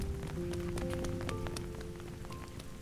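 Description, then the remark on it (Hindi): Steady rain falls and patters on a surface, with scattered sharper drops tapping nearby over a constant wash, a faint tonal hum lingering underneath. “अब हम दोनों फिर से वहां अकेले खड़े थे, मैं छतरी के नीचे और वो खुले आसमान के नीचे बारिश में भीग रही थी।”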